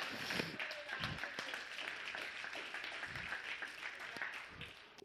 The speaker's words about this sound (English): Y'all clap and praise him one more time.